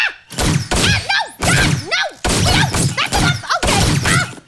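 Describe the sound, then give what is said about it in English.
A voice rapidly imitates 50 gunshots, a fast string of loud, punchy mouth-made bangs and blasts fired off one after another with no pauses between them. “50 gunshot noises.”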